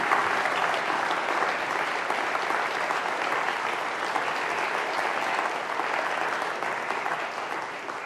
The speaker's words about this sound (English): It's always a good thing to have applause before someone has spoken, because, of course, there may be none afterwards.